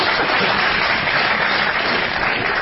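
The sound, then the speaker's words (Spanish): A steady wash of audience applause fills the whole stretch, dense and even with no pauses, moderately loud, with no voices rising above it. “Ojo el que aplauda, ¿eh?”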